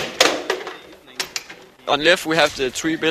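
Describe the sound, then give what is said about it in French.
Sharp wooden clacks and rattles from a table football game at an agricultural school, a few quick knocks, then a person starts talking over the end. “Mais de temps en temps, une partie de baby-foot s'impose.”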